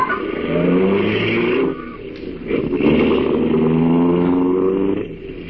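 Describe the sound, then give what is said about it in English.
A car pulls away, its engine droning loudly and rising in pitch as it accelerates, easing off briefly for a gear change before climbing steadily again. “And we drove off.”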